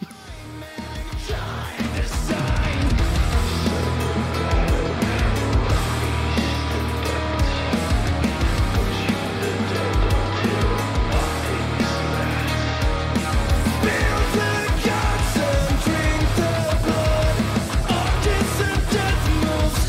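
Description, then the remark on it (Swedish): A loud, dense metalcore track by a metal band from Gothenburg, Sweden, plays continuously, with heavy distorted guitars, pounding drums, rock vocals and raw screams pushing through a wall of sound for the full stretch. “Metalcore som ändå känns lite unikt.”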